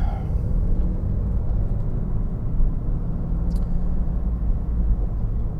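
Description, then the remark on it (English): A car cruises at highway speed in fourth gear at about 60 miles an hour, its low engine drone and road rumble steady and continuous throughout, with no talking. “Fourth gear, 60 miles an hour. Third gear, oh, cut off by a big semi truck.”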